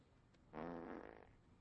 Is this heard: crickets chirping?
no